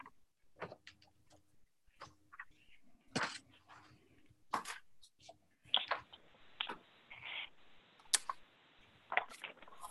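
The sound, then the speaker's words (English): Crisp paper rustling and flipping as a person turns pages looking something up during a meeting, a series of short crinkly bursts and swishes at an irregular pace, with a longer shuffling stretch near the end; no voices. “I'm turning pages here.”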